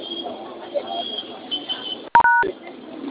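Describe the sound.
A single loud telephone keypad tone sounds for a fraction of a second, cutting through a muffled, narrow phone-line background with faint voices murmuring.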